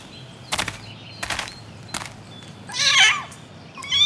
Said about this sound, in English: Listen, what's that? It's a kitten. Aww. Look, it's in the tree.